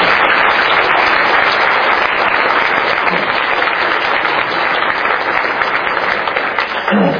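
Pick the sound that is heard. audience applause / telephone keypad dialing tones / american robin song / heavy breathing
audience applause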